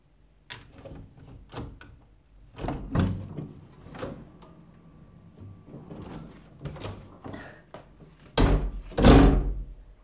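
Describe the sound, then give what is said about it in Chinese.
A door being opened for a visiting nurse: a run of sharp clicks and rattles from the latch and handle, ending in two heavier, louder thumps as it swings. No talking. “请开门吧。”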